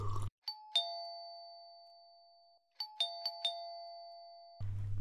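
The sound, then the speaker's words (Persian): A doorbell at a house door rings twice in quick succession late at night, pauses, then chimes again in a flurry of tones that ring out and sustain, clear, with faint background noise at either end. “وی زنگ دروازه اولیست.”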